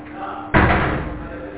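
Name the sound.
door being closed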